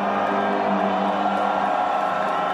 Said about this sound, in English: During Iran's national anthem at the start of the game, the booing rained down. A moment of solidarity with anti-government activists in Iran demonstrating in support of women's rights.